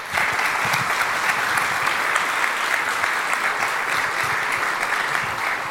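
Steady audience applause, many hands clapping in a dense, continuous patter that holds at an even, fairly loud level for several seconds, with no one speaking over it.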